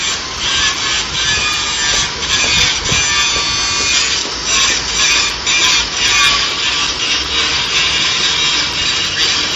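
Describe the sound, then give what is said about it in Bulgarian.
Loud, continuous roar of road construction machinery blowing away debris before new asphalt is laid, a harsh grinding, rushing noise that stays steady with slight surges throughout, with no voices. “дето издухва бокулците преди да се постави новия асфалт. Не знам колко децибела вдигат двете заедно”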